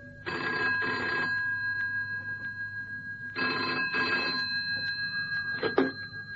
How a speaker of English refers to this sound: Cannon had hardly sat down when the phone rang on the direct line.